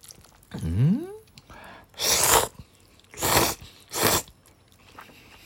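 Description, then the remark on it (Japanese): Noodle eating, with noodles in a tonkotsu-scented soup: a short voiced hum, then three loud, wet bursts of slurping and chewing spaced about a second apart, with no talking. “咀嚼音がしますんで、ご注意ください。”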